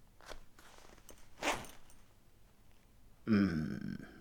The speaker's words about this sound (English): Undo my belt. Do it now. Good. Zipper now.